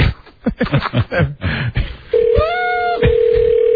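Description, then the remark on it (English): Muffled voices give way to a loud, steady electronic phone ringing tone on an outgoing call that holds through to the end, with only a brief break partway through. “All right, well, this guy better pick up the goddamn phone now.”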